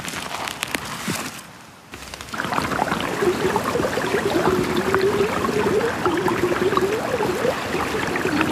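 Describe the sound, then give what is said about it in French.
A brook trickles and gurgles steadily, picked up by a microphone amplifying small sounds, its bubbling water producing a run of ringing, pitched notes that rise and fall like a xylophone, continuing without break after a brief quiet start. “Ça fait vraiment xylophone. C'est vrai ? Ah ouais. Dingue. Un spectacle pour nos oreilles au bord de ce ruisseau”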